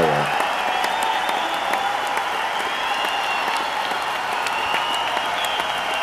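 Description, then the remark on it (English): A canned applause sound effect, triggered by an applause button, plays steadily for several seconds, dense clapping with a faint crowd murmur, loud, with no voices over it. “I think I've hit the applause button more times in this episode than in any other episode.”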